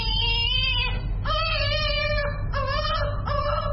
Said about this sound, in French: Bébé de 4 mois pleure en recevant son deuxième vaccin contre la polio à l'hôpital de la Fondation Chantal Biya à Yaoundé, la capitale.